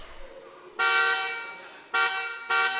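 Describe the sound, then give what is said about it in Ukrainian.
The horn of a car left in the middle of a street honks three times: one long, loud blast lasting about a second, then two shorter toots in quick succession, over a faint background murmur. “І чий це автомобіль на вулиці? Ви залишили його посеред вулиці і зібрали всіх хлопчаків з передмістя.”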